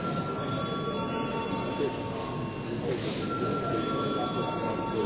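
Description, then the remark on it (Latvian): A voting bell rings in the Latvian Saeima plenary session as deputies are called to vote on a draft decision: a steady, shrill electric tone that holds without a break for about five seconds, with a low murmur of voices beneath it. “Lūdzu zvanu.”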